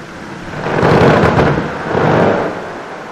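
Glacier ice breaks apart in Antarctica with a deep, thunderous rumble that swells twice, carrying a few sharp cracking snaps in the first surge before fading into a lingering roar. No voices.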